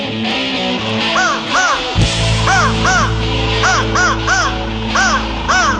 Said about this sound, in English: The turkeys are gobbling, the crows are cawing.